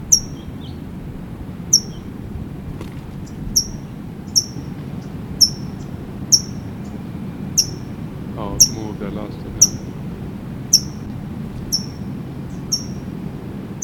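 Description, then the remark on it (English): A towhee just above the speaker gives a steady series of sharp, high chip calls, about one a second throughout. There is a brief spoken remark partway through, over a low background rumble. “That's a Tohi chipping.”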